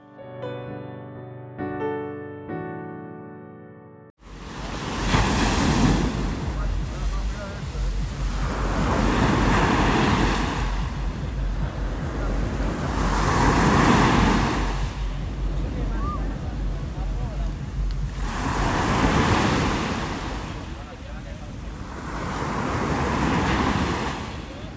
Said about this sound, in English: I've recorded the sound of some Mediterranean waves in Barcelona to get you started.